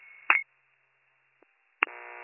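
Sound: telephone dialing tones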